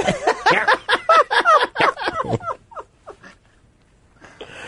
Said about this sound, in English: Sounds like one of my daughters like squeezes our cat.